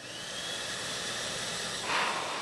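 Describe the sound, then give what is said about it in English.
An electric hand dryer made by XL Dryer of East Longmeadow, Massachusetts, blows with a steady, rushing roar and a faint high whine, the airflow growing slightly harsher and louder near the end. No one speaks. “It's a hand dryer.”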